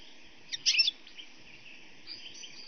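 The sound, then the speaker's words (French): A quick burst of high bird chirps from tree branches rises briefly, then fades into a faint, steady outdoor hum with occasional softer tweets. “Partout dans les branches, des chants d'oiseaux à foison.”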